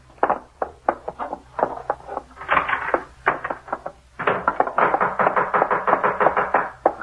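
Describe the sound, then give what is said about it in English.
Loud, insistent knocking on a door, a long series of sharp raps in uneven bursts with brief pauses, growing faster and more continuous toward the end, with no voices. “What are you trying to do? Break the door down?”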